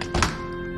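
door closing

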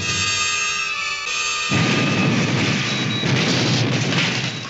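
series of explosions

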